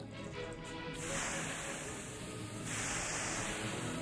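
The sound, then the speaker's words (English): Water splashed onto hot sauna stones in Finland sets off a loud hiss of steam, a sizzling burst that swells twice in quick succession with no talking. “Start with, you throw the water there”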